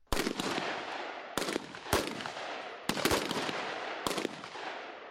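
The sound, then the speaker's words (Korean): Several sharp gunshots crack out in uneven succession, some in quick pairs, each loud and echoing over a constant rushing outdoor background, with no voices, fired at a US 2nd Infantry Division base in Dongducheon, Gyeonggi Province, South Korea, during a best-warrior competition among US and Korean soldiers. “11일 경기도 동두천의 미 이사단 부대에선 여러 발의 총성이 울려 퍼졌습니다.”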